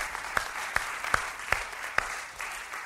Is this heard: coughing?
no